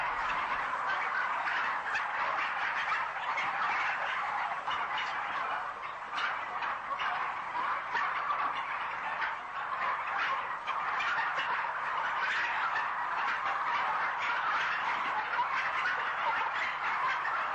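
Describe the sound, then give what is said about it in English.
A large flock of farmed domestic turkeys, reared the way most turkeys are, gobbling constantly, a dense, overlapping chorus of warbling calls filling the space at steady loudness, with no pauses and no people talking. “Whatever it says on the wrapper about being farm fresh or welfare friendly, what's shown here is the way most turkeys are reared.”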